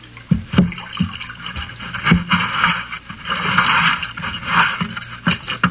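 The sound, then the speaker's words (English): A hatch thuds shut with a few heavy knocks, followed by wooden scraping and sloshing water as a small boat is shoved off into the water, with no talking. “Close the hatch and push me off.”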